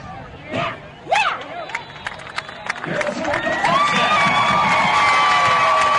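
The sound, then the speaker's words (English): A stadium crowd at a night football game between the Knights and the Vikings murmurs and yells as the quarterback lines up under center, then swells into a loud, sustained roar of cheering for a quarterback keeper, with shrill whistles and shouts piercing the steady wall of noise. “we've got a crowd and they are fired up here tonight”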